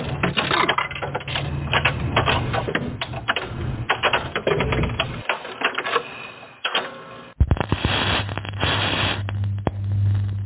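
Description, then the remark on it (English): A couple of coins clatter into a jukebox, followed by a dense run of mechanical clicking and rattling over a low motor hum, fairly loud, with a brief pause before the whirring resumes. “Let's shove a couple coins in the jukebox here.”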